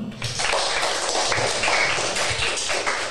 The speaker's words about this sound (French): Une émission spéciale avec des invités spéciaux que je vous demande d'applaudir.